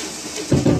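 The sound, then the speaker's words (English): A short splash of a little water poured into a cooking pan while cooking vegetables, a quick burst of sloshing and hissing lasting under a second over a faint background hiss. “And put in a little water.”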